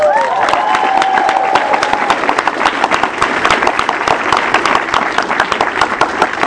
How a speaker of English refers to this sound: Would you please applaud my lovely wife?